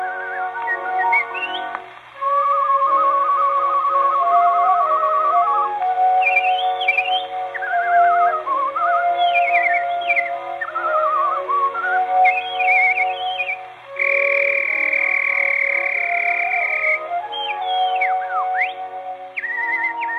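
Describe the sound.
A whistler of the Feminist Whistlers Movement whistles an elaborate, birdlike song calling a nightingale, with warbling trills, rapid glissandos and sustained bright tones, loud for about twenty seconds with no talking.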